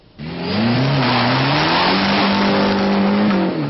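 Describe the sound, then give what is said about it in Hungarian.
A loud race car engine roars to life and holds a sustained, throaty acceleration, its pitch wavering slightly as it revs, with no voices, at an international car drag race on the runway of Satu Mare airport. “Nemzetközi autós gyorsulási versenyt szerveztek a Szatmár-Németi repülőtér kifutó pályáján.”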